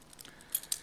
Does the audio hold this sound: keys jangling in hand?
yes